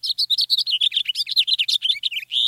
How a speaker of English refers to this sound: So, one more time. Here's a house finch, more melodic and with a buzzy note near the end.